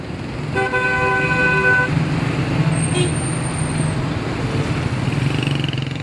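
Busy city street traffic in Tehran, Iran, with a steady roar of engines, cut through by a loud, sustained car horn blast near the start and a fainter high tone later, no voices.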